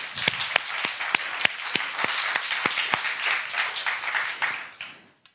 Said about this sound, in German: Okay, großer Applaus